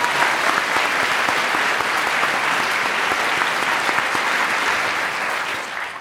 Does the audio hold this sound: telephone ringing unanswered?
no